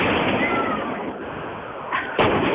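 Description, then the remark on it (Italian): Two sharp firecracker bangs burst out near the end, one right after the other, over a dense, steady roar of crowd noise that fills the whole clip, as firecrackers are set off in a square during a street protest facing police. “Qui partono petardi e non si sa dove cazzo finiscono.”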